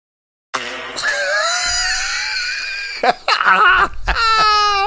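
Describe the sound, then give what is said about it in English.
A loud fart broadcast over a Costco store intercom: one long, buzzy, wavering blast lasting a couple of seconds, then a few shorter sputtering bursts, with no talking. “Guy farts in Costco intercom.”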